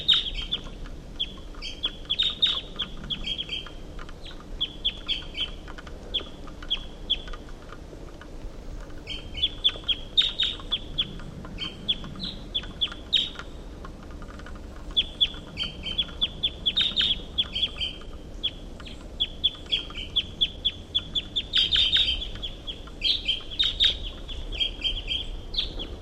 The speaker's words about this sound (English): Recording the wild bird. Who's up at the top of this tall pine?